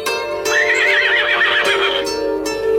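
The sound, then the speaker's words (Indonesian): A horse by a fairly luxurious horse-drawn carriage, parked not far from a guard post gate, gives a long, wavering whinny, loud and clear, with a few faint hoof clops around it and no voices. “Tampak sebuah kereta kuda yang cukup mewah diparkir tak jauh dari pintu penjagaan.”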